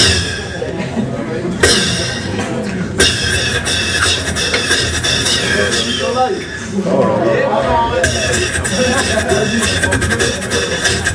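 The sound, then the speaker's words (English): A voice imitates open hi-hat cymbals with long, bright, hissing bursts that start sharply and ring on, repeated a few times at a steady loud level. “When they're open, it's like this.”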